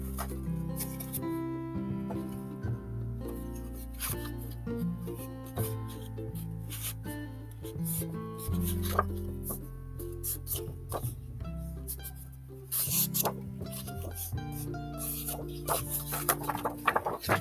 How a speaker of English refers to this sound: Nice ASMR picture, the sound of paper.